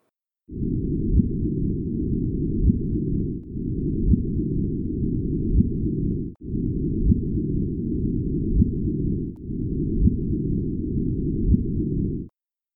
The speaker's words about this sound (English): It lasts just 0.2 seconds, so I'm going to put it on repeat for a while so you can hear it. Check it out. This is what it sounds. If you could hear gravitational waves from merging black holes, this is what you would hear.